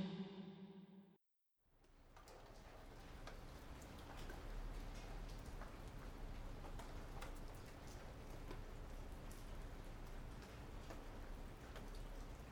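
Steady rain falls continuously in the morning, a dense even hiss with scattered individual drops pattering. A brief tonal sound and a moment of silence come before the rain begins.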